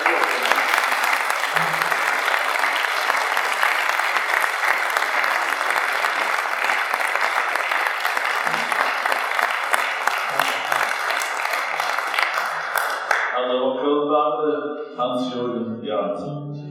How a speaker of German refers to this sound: Aber jetzt dürfen wir schon zu klatschen.